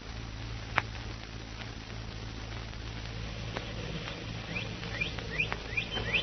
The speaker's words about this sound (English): Birds waking up